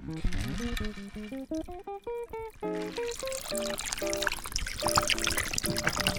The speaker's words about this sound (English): And you're shaking the agave and the bourbon together. Pour it into your glass of ice.